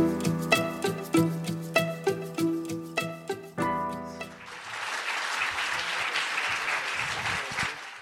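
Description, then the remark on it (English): A short burst of upbeat music with steady beats gives way to an audience clapping for debaters after a debate, the applause loud and sustained through the second half without talk. “And can we get a round of applause for the debaters?”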